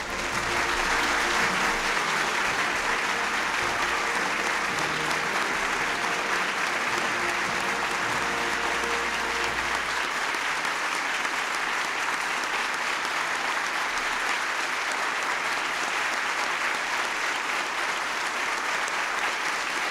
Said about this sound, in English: I thought it appropriate to start off with the nearly minute and a half standing ovation applause that she received at her 1993 swearing-in ceremony.